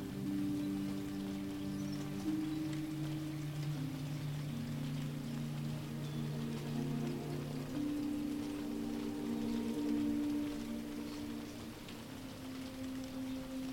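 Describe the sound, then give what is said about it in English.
A soft, steady patter of distant rain forms a continuous hiss beneath gentle, sustained musical tones that drift and shift slowly throughout, with no one speaking. “You can take a few moments to settle in, just listening to the sounds around you, the gentle music, the distant rain.”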